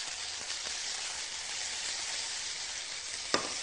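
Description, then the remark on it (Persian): Peas and white sauce are stirred together with other ingredients in a pan over a steady, bright sizzle, with a few soft scraping strokes and one sharp clack of the utensil near the end. No one speaks. “کاملا اینها رو با هم دیگه مخلوط میکنیم.”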